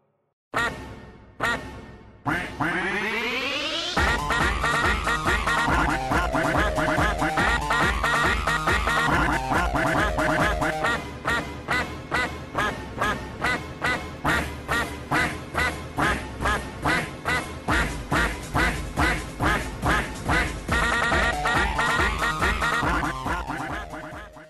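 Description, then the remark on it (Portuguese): A loud electronic remix made of chopped duck quacks, opening with a few isolated quacks and a rising sweep, then driving into a fast, steady, pulsing beat of repeated quacks with no talking. “Vai ser a música normal do podcast ou o Pato? Vai ser o Pato Duck Spartan Remix All the Time.”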